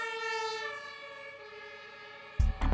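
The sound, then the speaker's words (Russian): An emergency vehicle siren wails steadily, its pitch sliding gradually lower as if passing by, then a couple of brief low rumbling thumps cut in at the end. “То есть каждый день, когда скорая помощь или пожарная машина пользуется навигатором, стоит вспомнить Доплера и сказать ему спасибо.”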